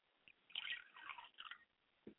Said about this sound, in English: I pour libations to my Father's Spirit and say, Ashe. I pour libations to my Mother's Spirit, I say, Ashe.